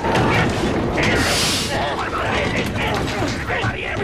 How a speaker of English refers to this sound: The pirates force open the outer door.